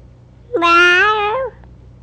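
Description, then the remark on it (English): A single drawn-out cat meow, loud, lasting about a second with a slight rise and fall in pitch, heard alone against a quiet background. “And the kitty cat? You see the cat?”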